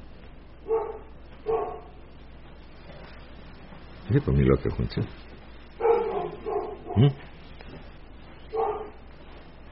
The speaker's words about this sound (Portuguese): A cachorrinha está latindo aqui. Ela está latindo para alguma coisa lá fora ou aqui dentro? Ela estava dentro? Ah, olhando para fora.